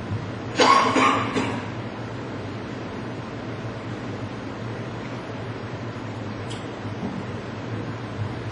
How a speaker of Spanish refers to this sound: Te pido, Señor, que me ayudes con esta tos, mi Dios. Tú quites todo ardor de garganta, mi Dios, toda ronquera.